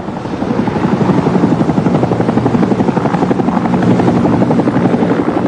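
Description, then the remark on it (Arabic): A helicopter flies overhead carrying road accident victims to hospital in Birmingham, Britain, in September. Its rotor beats in a fast, steady rhythmic chop over a loud, broad engine roar that holds constant throughout, with no voices. “مدينة بيرمنغهام البريطانية في شهر أيلول، يتم نقل ضحايا حادث سير بالمروحية للمشفى.”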